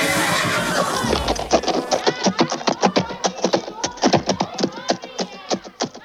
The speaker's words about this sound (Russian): Купил мужик новую узду, отдал старику деньги, сел на коня и домой поскакал.